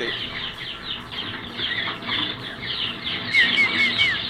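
A dense chorus of birds chirping and twittering continuously, many overlapping calls at moderate volume, with a few sharper, higher chirps standing out near the end. No one speaks.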